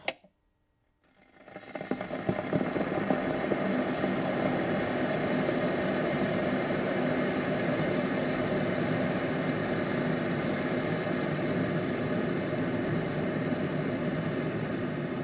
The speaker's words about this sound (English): Firstly, actress Kim Basinger, boiling a kettle for her morning cup of tea whilst wearing pyjamas and a dressing gown.